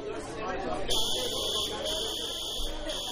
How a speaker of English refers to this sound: You think it's not a drill? No, I don't think it's a drill either. I think it's a false alarm.